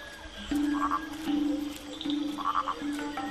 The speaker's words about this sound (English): One of the most extraordinary recent finds is this. Nasica petrachus, never before filmed. The purple frog.